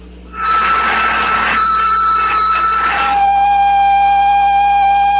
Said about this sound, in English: I'm going to pump out the lock.